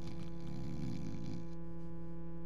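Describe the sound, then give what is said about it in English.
A male preacher imitates a loud, raspy snore with his voice, one drawn-out rumbling breath that fades into a steady hum. “And this dude's over there snoring.”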